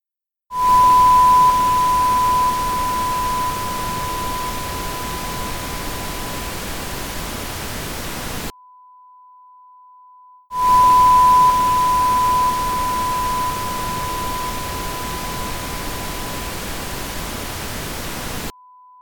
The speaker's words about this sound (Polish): Po przekroczeniu pewnego progu w różnicy pomiędzy mocami obu sygnałów, szum całkiem przykrył ton testowy. Sygnał maskujący był dużo głośniejszy od tonu maskowanego.